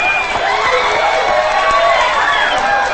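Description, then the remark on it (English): Loud, continuous audience applause at a bar after a singer's performance, blended with cheering voices, a dense crowd roar that holds steady for the whole stretch without pause. “she spots her mother, who applauds.”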